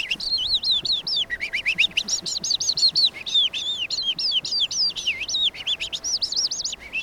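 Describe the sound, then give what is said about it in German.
A person whistles an imitation of a skylark's song: a rapid, unbroken stream of high warbling trills and chirps, fairly loud, running without pause for several seconds with no talking. “Naja, ganz, sag mal, Feldlerche oder so.”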